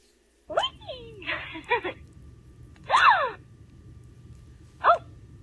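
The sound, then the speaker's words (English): A small troll doll toy from the Trolls series makes a series of short, breathy gasping squeals when its button is pressed, four quick bursts with pauses between them, moderately loud over a low steady hum. “about the Trolls series, it's supposed to be a troll that they put out, and it had a little button to press to make a sound, and it makes this sound when they press a button on this little troll doll for children right in the privacy, as we call it.”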